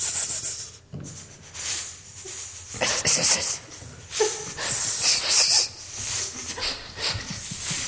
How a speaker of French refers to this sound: Et puis tu pourrais peut-être essayer avec un reniflement un peu plus plaintif, plus proche de la plainte que... Mais c'est des... C'est ça l'éloquence, un reniflement un peu plaintif.